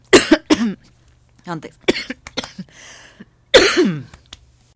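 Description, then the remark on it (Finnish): Several loud coughs arrive in irregular bursts: a quick pair at the start, another a moment later, and a final harsh one, with softer throaty sounds and quiet pauses between. “Yskäisemme ja yritämme uudelleen.”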